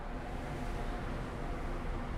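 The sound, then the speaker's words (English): A large diesel ferry engine beneath the ship drones steadily, a deep, constant rumble heavy in the low end with a broad wash of noise above it, unbroken for the whole stretch, powering the ship across the water from Oban to Castle Bay in Barra. “Well, that's the unmistakable sound of a ferry. A large diesel engine, no doubt, underneath me, powering the ship as we go across the water from Oban over to Barra, Castle Bay in Barra.”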